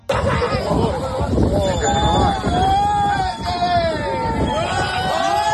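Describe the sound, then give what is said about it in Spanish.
A group of young people shouts and cheers continuously over a steady engine-like rumble. They are cheering on drug traffickers whose narco speedboat runs right over a Guardia Civil boat. Excited yells and whoops rise and fall throughout. “De este sonido que estamos escuchando se han cumplido justo 3 meses y es el momento en el que un grupo de jóvenes vitorean y animan a los traficantes que con su narcolancha pasan literalmente por encima de la embarcación de los guardias civiles”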